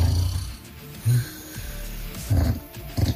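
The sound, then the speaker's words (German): A man snores in his sleep, recorded by his wife in Schwedt, with three or four rough, rasping snores at a steady rhythm, each a short low burst separated by quieter breathing. Clear, no talking. “Sie haben uns diese Woche jede Menge Beispiele ihrer schlaflosen Nächte geschickt mit dem Sägen, Pusten oder Pfeifen ihrer Bettpartner.”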